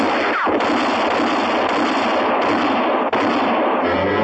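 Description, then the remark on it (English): A loud exchange of gunshots between two men, sharp cracks punching through a dense, harsh wash of noise, as one shot shatters a bottle on a bar. Both shots miss. No voices are heard. “Crowley fired, and in that same instant, Dick whirled and shot back. He shattered a bottle on the bar.”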